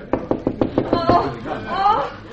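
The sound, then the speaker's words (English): A quick, steady run of about seven sharp knocks on a wooden door of a room at the end of a corridor, followed by a voice speaking briefly. “This is Seeley's room. End of corridor. Well, knock.”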